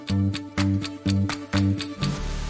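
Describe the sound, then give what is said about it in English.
A clock ticks in a brisk, even rhythm, about ten crisp ticks in quick succession, clear over a steady low musical hum that swells in short pulses. “forever, like how a clock keeps ticking forever and ever.”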